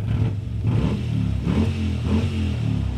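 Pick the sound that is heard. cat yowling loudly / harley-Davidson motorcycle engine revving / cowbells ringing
harley-Davidson motorcycle engine revving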